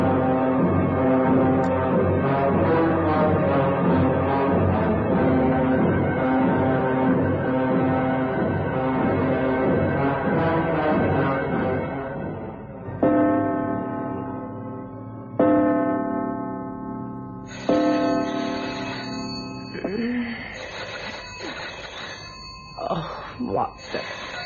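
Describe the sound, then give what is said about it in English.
A telephone rings at 3 o'clock in the morning in several separate bursts, each ring loud with a ringing decay, after a long stretch of dense, sustained tonal sound. “Wretched thing ring. 3 o'clock in the morning. Oh, I suppose I'd better answer it.”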